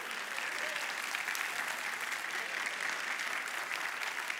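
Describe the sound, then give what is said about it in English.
An audience applauds the drummer steadily, a dense, even wash of many hands clapping at a moderate level that holds without pause from start to finish. “I want to give some applause to”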